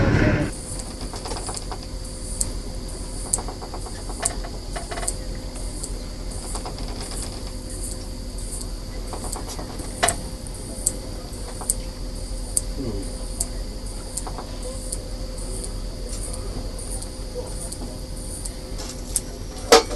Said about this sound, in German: Der Captain hat ihnen netterweise mal die Kopfhörer gegeben und jetzt zeigen wir euch mal, wie sich das anhört, wenn die Pottwale gerade auf der Suche nach Beute sind.